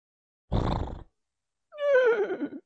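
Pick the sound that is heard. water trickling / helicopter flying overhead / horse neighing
horse neighing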